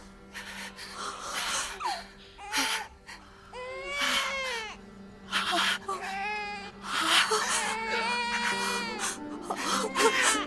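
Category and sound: human body sound, newborn baby crying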